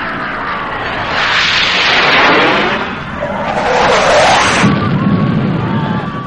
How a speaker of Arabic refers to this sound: أذني قد كانت ارتاحت منه من يوم ما خرجت من تعز، وظنيت أني أتخيل فعلا، لكن كان الصوت حقيقي. بكى الجهال حق عيال أخي فقعنا، صوت طائرات صوت طائرات وصوت قريب قريب قريب.